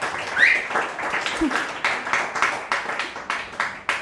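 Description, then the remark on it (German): Audience applause: many hands clapping in a dense, steady patter for several seconds, with a few sharper individual claps standing out near the end. No one speaks over it. “Einmal bitte Applaus.”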